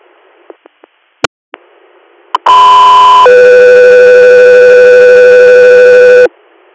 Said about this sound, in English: Go 3 Air, stand by for tones.